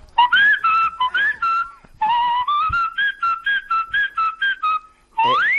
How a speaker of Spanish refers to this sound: Es un homenaje autóctono. Mi silbido es autóctono.